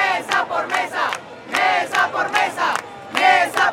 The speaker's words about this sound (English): The crowd shouts they want to see voting tally records for every precinct, something the country's Electoral Council is refusing to release.